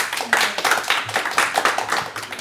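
A crowd applauds, many hands clapping in a dense, steady patter that fills the whole stretch at a fairly loud, close level, with no one talking over it.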